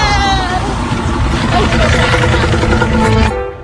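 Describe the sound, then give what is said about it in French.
A motorcycle engine runs loud with a steady, rough drone and muffled voices underneath, then cuts off abruptly near the end. “Non, moi je vais sur ma moto.”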